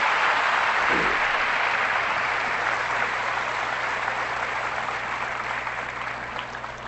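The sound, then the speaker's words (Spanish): An audience applauds Christ, the priest, at a gathering with priests in preparation for Pentecost. A dense, reverberant wash of many hands clapping at once holds strong throughout and eases slightly toward the end, with no one speaking. “Ahora sí, el aplauso a Cristo, nuestro sacerdote.”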